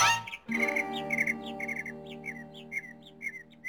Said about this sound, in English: What kind of bird is that, Eb? Oh, that's a double-breasted Tennessee muskellark. It looks like a sparrow to me.